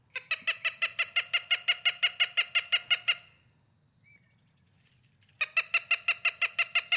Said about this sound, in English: I want to listen to the Cooper's hawk and then let's talk about him a little bit.